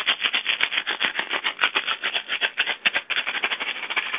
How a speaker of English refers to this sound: I got some rattles out, which I'm going to use right now.